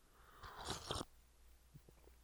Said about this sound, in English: I have the hiccups now, excuse me, hold on, let me get a sip of coffee here.